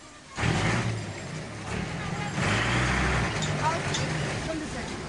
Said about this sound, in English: A squat, fat truck is trying to get past me down the lane. I've got to flatten myself against the wall. It inches past me. Very tight squeeze, very tight. Then it's past.